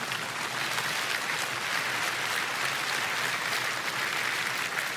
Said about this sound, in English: You can clap. Go ahead.